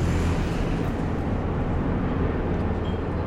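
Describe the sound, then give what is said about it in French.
Steady, loud engine and road rumble from inside a moving bus, a dense low drone with constant hiss and no voices, continuing evenly throughout. “Dans le bus.”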